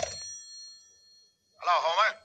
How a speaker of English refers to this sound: It was the next afternoon, a Saturday, that the phone rang.